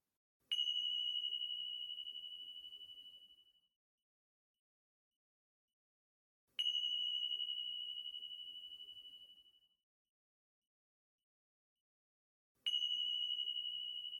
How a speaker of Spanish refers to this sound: Recibiendo el sonido de las campanillas.